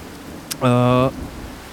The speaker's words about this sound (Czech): Venku prší, takže asi proto nikdo nechce jít ven a tak všichni jdou do divadla.